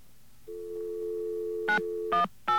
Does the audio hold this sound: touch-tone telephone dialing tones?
yes